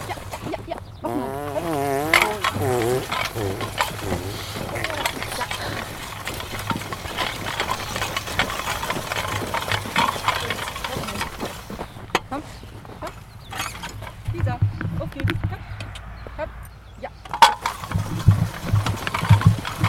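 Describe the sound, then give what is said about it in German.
A horse, hitched by a wooden bar, draws a farm implement across a field being worked, with a steady scraping, rattling drag and occasional creaks, while flies buzz in the open air throughout. “Wir haben jetzt gehört, wie der Acker mit dem Pferd bearbeitet wird.”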